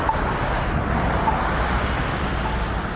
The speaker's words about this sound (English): So we've got the oncoming traffic. The parallel traffic.